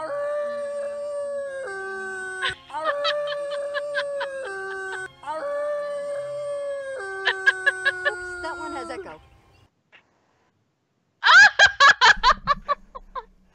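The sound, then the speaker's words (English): Long, sustained howls with stepping pitch carry on for several seconds, loud and seeming to ring out with echo, followed after a brief pause by a burst of choppy giggling. “we guarantee that you're going to have a howling good time”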